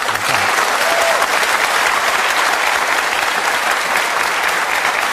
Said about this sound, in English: Well, I think fair to say probably the biggest round of applause I've seen for a few weeks on Question Time.